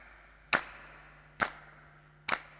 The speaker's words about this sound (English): These claps were done in my home studio in my mum's garage.